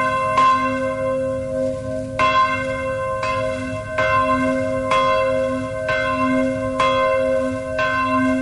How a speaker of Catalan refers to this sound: És la campana de Sant Miquel del monestir de Montserrat.